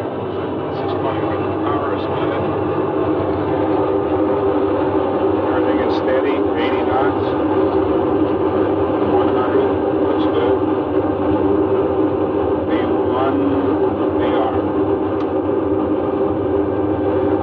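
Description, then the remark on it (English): The engines of a twin-engine jet, cleared for takeoff with an instructor aboard, roar steadily and loudly for the whole stretch during the takeoff roll, a dense, unbroken drone with a low rumble and hissing upper edge, with faint, indistinct voices underneath. “We're cleared for takeoff at this point. Instructor's given the instructions, and you can hear the noise.”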